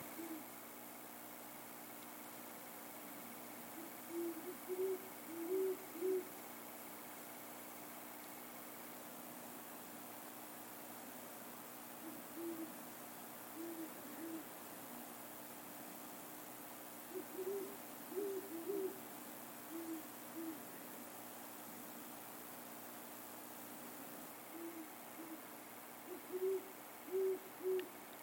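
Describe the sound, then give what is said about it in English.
Two owls hooting back and forth in short clusters of low, soft hoots, with a third owl far away, repeating every several seconds over a steady quiet background hiss, with no one talking. “I can still hear the owl”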